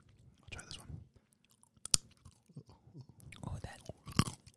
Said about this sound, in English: Oh, that's got some nice crunch. Yeah. Let me do my last almond. Ooh, that was a good one.